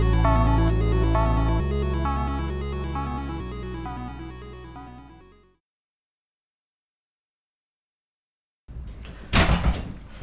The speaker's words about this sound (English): Was not expecting the wrecking ball of a dog coming down the staircase. Break through the thing.